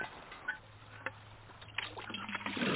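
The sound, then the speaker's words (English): Water splashes and trickles into buckets being filled at a spring, with scattered sloshing bursts and a low steady hum underneath, moderately quiet. “We fill the buckets up.”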